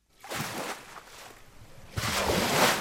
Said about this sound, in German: In einer riesigen Werkshalle nagen kräftige Wellen an der Düne Marlins Knoll. Nach und nach sackt der mächtige Sandkörper in sich zusammen.